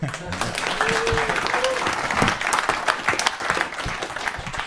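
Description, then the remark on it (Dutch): A crowd breaks into sustained applause as thanks at the close of a meeting, dense overlapping claps at a steady, fairly loud level throughout, with a brief faint tonal whistle or murmur of voices mixed in early on. “Een applaus.”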